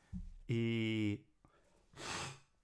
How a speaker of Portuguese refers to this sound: Ai, gente, desculpa. Eu não queria ter que editar isso. E não vou editar, sabe? Vocês vão ter que me ouvir fungando.